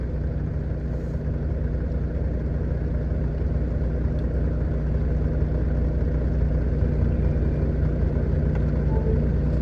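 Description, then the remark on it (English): A truck engine idles steadily, a deep, even rumble with a low throbbing hum that holds the same level throughout, with no voices. “Damn, truck is a lot better sounding when you give it some gas.”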